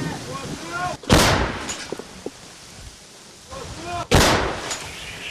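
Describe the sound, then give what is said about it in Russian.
Two heavy artillery cannon blasts from a gun called "Violetta", fired by soldiers of the Karadag brigade, about three seconds apart, each a sharp, loud boom followed by a rumbling decay outdoors, with faint voices in between. “После стрельбы бойцы, как обычно, укрываются на случай ответного огня.”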